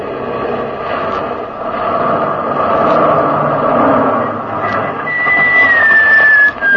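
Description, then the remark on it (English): A truck's engine rumbles loudly and steadily, then a high, drawn-out squeal of tires or brakes builds near the end as it swerves across the road, blocking it, and lurches to a stop. “I gave the sergeant the order to swerve the truck across the road, blocking it.”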